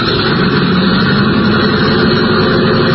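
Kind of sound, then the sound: vehicle, airplane engines warming up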